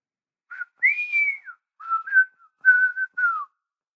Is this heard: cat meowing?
no